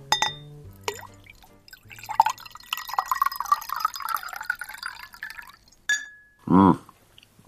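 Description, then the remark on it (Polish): Water is poured into a glass, a steady gurgling stream rising in pitch as it fills, with a few light glassy clinks before and a soft knock after. “Dobra, prawda? Woda jak woda, ale dobra.”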